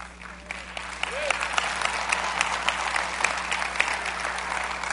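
audience applauding

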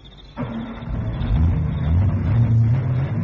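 car engine starting

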